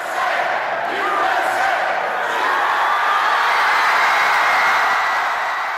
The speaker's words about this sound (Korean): 16년 만에 여자 월드컵 우승 소식에 사람들은 환호를 지르며 기쁨을 감추지 못했는데요.